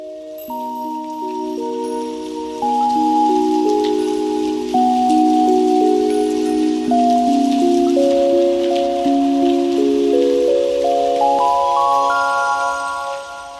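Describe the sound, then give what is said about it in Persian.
Steady rain falls as a soft, continuous hiss in the background, while a gentle melodic tune of sustained notes plays over it throughout; no one speaks. “دقت کرده اید باران که می بارد چقدر مهربانتر می شوید؟”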